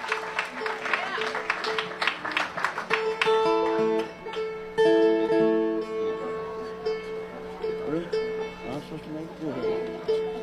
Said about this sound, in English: Again, a nice round of applause, if you will, for Miss … and also Miss …, folks.